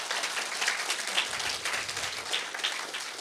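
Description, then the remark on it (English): A crowd applauds to thank those who donated to fundraising that let every youth go on a trip for free, many hands clapping in a dense, even patter that holds at a constant level for a few seconds with no voices over it. “So thank you. Round of applause.”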